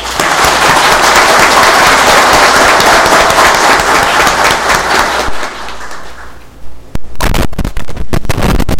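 A loud, dense burst of applause from a crowd at a municipal council session, after the councillors for the 2021–2024 legislature are declared sworn in, steady for about five seconds before thinning out into a few scattered claps and fading.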